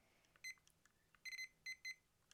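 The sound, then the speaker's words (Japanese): A kitchen timer beeps in short electronic tones as buttons are pressed to set it to 20 minutes: a few quick beeps, then a cluster of three longer ones and a final faint chirp, fairly quiet with no talking. “はい、20分のタイマーにやります。”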